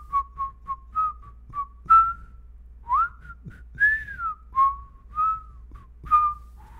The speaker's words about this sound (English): You want to play a game real quick where we whistle tunes back and forth to each other and I try to guess what you're whistling? Okay. All right, here's me. Ready? Okay.